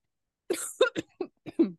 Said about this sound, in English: Are you all right? Bit of a cough. Yeah, I just. Well, I've just kind of. Everybody in the house is ill.